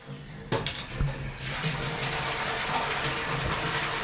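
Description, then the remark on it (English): A couple of hollow clunks, then a sudden steady roar of water gushing into a well under an opened hatch, refilling because the water level is low, loud and continuous to the end, with no one speaking. “Denmat opens the hatch to show us the well, and just as he does that, the water happens to rush in.”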